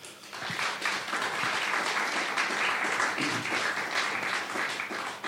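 A crowd applauds steadily, dense overlapping claps forming a sustained wash of sound at an even loudness for several seconds, with no one speaking over it.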